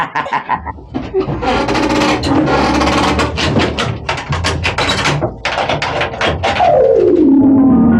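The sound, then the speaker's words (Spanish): A heavy old door is shut by a gunman amid a loud, rapid series of clanking knocks and rattles, like bolts and latches, ending with a low tone that slides downward. “La puerta ha sido cerrada.”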